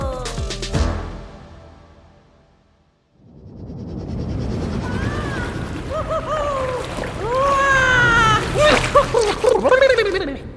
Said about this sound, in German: Boah, ich habe gerade so einen Durst vom Joggen. Ich spüle dich heute mit einem großen Schluck Wasser runter.